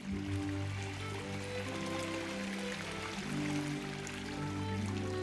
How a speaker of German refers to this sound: die von Wasserfällen und rauschenden Gebirgsbächen gespeist werden